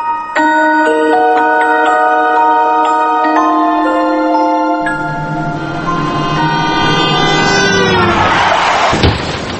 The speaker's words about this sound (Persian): اوه تصادف شد، یعنی ما از پشت کوبیدیم به این بنده خدا ماشینش جمع شد، 6 نفرم مردن.